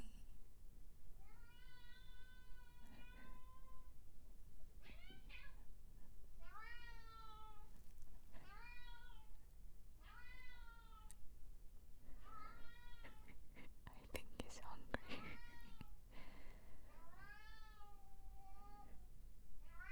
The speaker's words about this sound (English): Hey. That's how a cat tantrum sounds like.